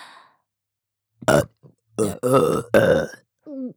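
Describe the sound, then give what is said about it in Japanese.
A run of four or five loud, close-up burps in quick succession, deep and gurgly with short silences between them, ending with a brief, higher-pitched voiced grunt. “ゲップが出るとまた感じる。”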